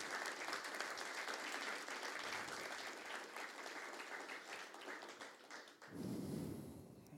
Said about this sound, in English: Can we give him a round of applause?